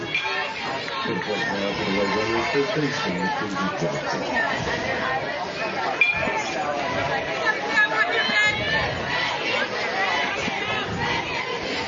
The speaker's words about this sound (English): Turned out to be a pretty good crowd here today for this Buccaneer softball game this afternoon. Make a trip out here to Holt Park. Game 1 of a doubleheader.